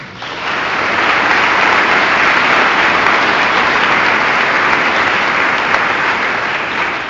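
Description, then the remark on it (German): A crowd claps steadily for several seconds, a dense, loud wash of many hands that swells in quickly, holds even, and tapers slightly at the end, with no voices over it. “Und dann geben wir jetzt denen, die wir vergessen haben, jetzt auch nochmal einen Applaus.”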